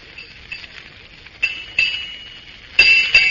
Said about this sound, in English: It's getting late. There goes six bells.